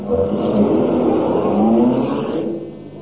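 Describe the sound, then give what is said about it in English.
A car engine roars and revs up loudly, its pitch rising over a couple of seconds before the sound drops away as the vehicle pulls off. A man in a chauffeur's uniform starts the car's engine and drives off. No one speaks. “He'll start the engine.”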